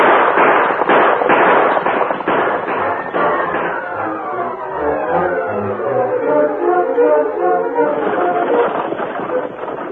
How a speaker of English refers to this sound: startled when the gunfire was heard